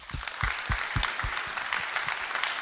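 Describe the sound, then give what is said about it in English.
An audience at a conference applauds steadily to welcome speaker Candace Moon, many hands clapping in a dense, crackling wash with some louder individual claps thumping through at a regular pace, sustained for the whole stretch with no one speaking. “So I would like everyone to please give a warm welcome for Ms. Candace Moon.”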